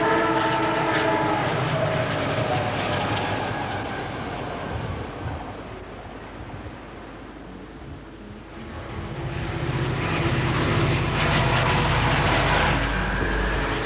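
A loud engine runs roughly with a steady mechanical rumble and whining tones, like a valve or exhaust fault. It eases off midway, then swells back up. No one speaks.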